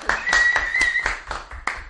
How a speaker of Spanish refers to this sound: Bueno, y nuestro técnico, yo creo que hoy aplauso no, ovación. ¡A de pie, todo el mundo de pie!